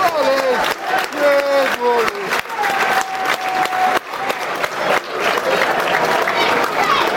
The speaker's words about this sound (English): There's Jed warming up there below us too. Good applause.